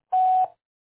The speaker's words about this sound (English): Record your message after the tone. Simply hang up when done.